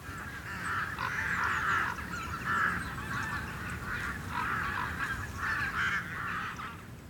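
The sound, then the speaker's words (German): A large flock of migrating geese honks continuously over Paarsteinsee lake in November during bird migration, many overlapping calls forming a dense, restless chorus, with a steady low rumble of wind or water beneath. “November, Paarsteinsee, Vogelzug.”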